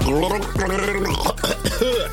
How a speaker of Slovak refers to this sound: Je to rubrika, ktorá spočíva v tom, že si zoberiem vodu do svojich úst a skúsim vám vykloktať nejakú skladbu.